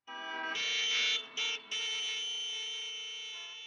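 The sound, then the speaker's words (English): Loud car horns blare in long, steady, overlapping blasts in traffic at a standstill, part of a long tracking shot in a Godard film, broken by two brief gaps before one continuous honk holds to the end. Nobody speaks. “And since this is a main theme is cars and traffic and car wreckage and road rage, even honking is a major element of Godard's work. So here comes some honking.”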